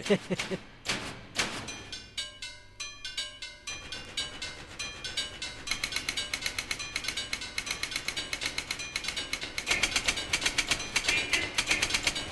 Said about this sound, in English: a 3-minute piece played almost entirely by office machines. It features 156 instruments, including typewriters, calculator and accounting machines, telephones, office perforators, metronomes, entrance door gongs, and a forklift.